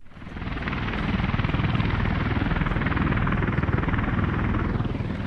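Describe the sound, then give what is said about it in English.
Loud, steady roar of aircraft engines on a military airstrip at Kandahar Air Base, Afghanistan, with a rapid rhythmic chop like helicopter rotors throbbing throughout, filling the whole stretch without pause and no voices. “So we're down on an airstrip at Kandahar Air Base.”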